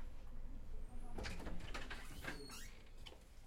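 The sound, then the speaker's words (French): A heavy red padded door at a hospital headache emergency unit swings shut with a muffled scrape and a few soft, dull knocks over a steady low background rumble; no one speaks. “Une porte rouge, lourde, te coupe du reste du monde. Une porte capitonnée, qui empêche le bruit extérieur de rentrer.”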